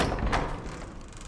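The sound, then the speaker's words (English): A bedroom door opens with a short, solid knock of wood early on, followed by a low, fading rumble. There is no talking. “Rosalind approaches the bedroom door.”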